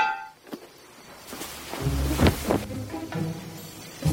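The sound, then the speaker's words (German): A grappling hook thrown over the protective wall around a villa clangs against the wall: a light tap, then a louder metallic clank followed by a few scraping, rattling knocks as it settles. No one speaks. “Da, schmeiß schon mal Enterhaken rüber.”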